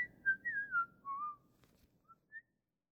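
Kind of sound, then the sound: human body sound, person whistling a tune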